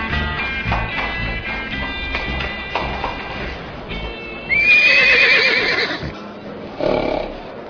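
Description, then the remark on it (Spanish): A horse whinnies loudly in a rising, shaky neigh after a steady run of clip-clopping hooves as its rider dismounts at the saloon in Silver City; another short snort-like burst follows near the end. “Billy bajó de su caballo y, con paso decidido, entró en el salón de Silver City.”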